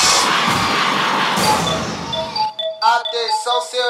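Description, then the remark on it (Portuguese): A crowd of women shouts and screams loudly for about two and a half seconds, answering a call for the women who don't need a man to pay their bills, then the roar cuts off and bright, high tonal notes follow in quick bursts. “Agora eu quero ouvir o grito da mulher que não precisa de homem pra pagar suas contas.”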